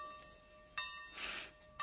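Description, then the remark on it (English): A bell rings in repeated strikes, each hit leaving a bright metallic tone hanging in the air. It sounds fairly quiet, with a short hiss in between and no voices. “The bell.”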